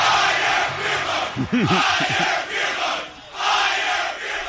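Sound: stadium crowd cheering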